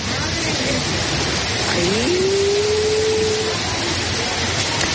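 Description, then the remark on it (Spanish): Heavy rain from a storm in Orense pours down in a dense, steady, loud roar that fills the whole clip, with a brief sustained tone rising faintly through the downpour midway. “No fue solo Madrid el punto más afectado por las tormentas, también Orense sonaba así.”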